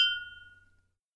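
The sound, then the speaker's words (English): A single bright clink of beer glasses touching in a toast, a clear ringing tone that fades away within about a second, heard on its own with no voices. “Well, until next time, cheers.”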